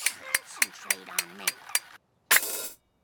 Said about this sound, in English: As Marge speaks, a clockwork monkey bangs cymbals in Homer's head.